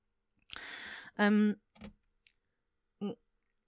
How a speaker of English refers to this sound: I need a sip of water there. My mouth is very dry.